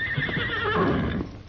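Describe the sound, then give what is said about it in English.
A horse named Silver whinnies loudly in a single drawn-out, wavering neigh with a bright, shrill pitch that drops and fades toward the end, with no voices over it. “Well, maybe you better graze a little longer, Silver. Steady there, boy.”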